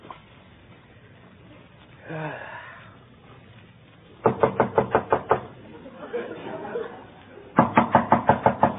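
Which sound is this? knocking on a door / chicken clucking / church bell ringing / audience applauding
knocking on a door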